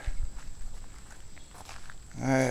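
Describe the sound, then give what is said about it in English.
Heavy, soft footsteps squelch and slosh through soggy creek mud, sinking into the creek bed, in an uneven rhythm, with dull low thuds and wet rustling, as a man looking for golf balls walks back the way he came, before his voice begins speaking at the end. “Alright, I'm sort of walking back the way I came.”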